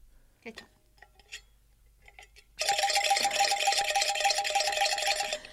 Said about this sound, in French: Et voilà, vous l'avez entendu et reconnu, c'est notre jingle du... Grand jeu concours.